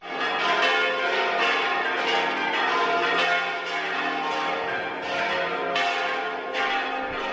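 signal or alarm, cathedral church bells ringing

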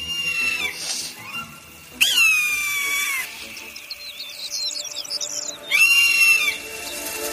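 bird, golden eagle call

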